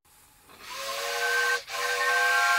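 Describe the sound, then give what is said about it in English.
A steam train whistle blows a sustained, harmonically rich tone over a loud rushing hiss of steam as the train stops at the station, with a brief dip in the middle before the shrill whistle resumes. “The train stops at the station.”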